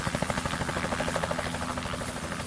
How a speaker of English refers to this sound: Now, there are no roads up into those mountains. The only way up there is by helicopter.